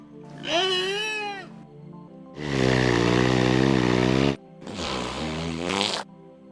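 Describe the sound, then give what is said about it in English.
A whale being taught to talk mimics human speech in three loud, voice-like bursts: a wavering, rising-and-falling wail, then a long, buzzy, low-pitched stretch, then a shorter garbled call, with brief silences between. “It's a talking whale.”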